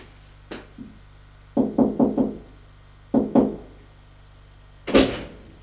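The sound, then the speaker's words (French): A man knocks on a wooden door on the first floor, reached by waxed wooden stairs: a soft pair of taps, then a quick run of four knocks, then two more, followed by a louder thud and a faint high squeak, all with no voices. “L'homme va frapper à une porte de bois.”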